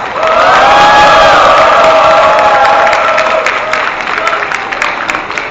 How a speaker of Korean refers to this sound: 용산참사 해결을 위한 전국순회 촛불문화제를 여러분들의 우렁찬 함성과 박수로 시작하겠습니다.